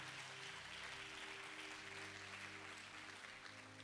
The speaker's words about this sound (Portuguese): Quem que é muito grato a Deus pela vida da igreja viva, da liderança, dos pastores? Dê uma salva de palmas e adoração a esse Deus.